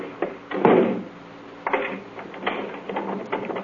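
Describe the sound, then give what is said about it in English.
A door thuds shut, followed by several clunking, rattling sounds like a latch or lock being worked, spread over a few seconds with no voices. “Lock the door on your way out.”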